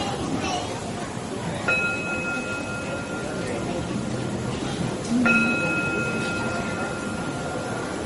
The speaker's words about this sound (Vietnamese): Cho nên ví dụ như mình thỉnh chuông, mình thỉnh nè, quý vị nghe mà nó không có ngân, nó không có phát. Cho mình thỉnh tiếng chuông, mình phải thỉnh không nghe, không đứng mà xem, đưa cái tiếng chuông đi lên.